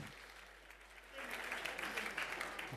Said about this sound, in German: Applaus.